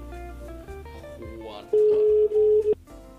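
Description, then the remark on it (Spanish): A loud, steady phone dialing tone sounds for about a second, briefly dipping once, following a quieter stretch of background music. “Uy, ¿a quién llamamos?”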